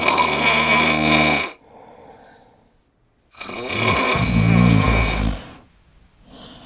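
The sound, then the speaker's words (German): A man snores loudly: two long, rattling snores a couple of seconds each, separated by a quiet pause, with a third just starting at the end. No one speaks. “Ja, das hängt damit zusammen, dass viele Männer eben auch schnarchen.”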